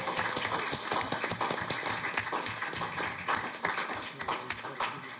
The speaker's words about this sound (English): The CCB stream team is what they are. Let's give them a huge hand.